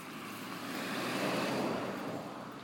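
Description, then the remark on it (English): A car passes by, a broad rushing swell of road and engine noise that builds to a peak around the middle and then eases off slightly, with no voices. “Must move away for this car.”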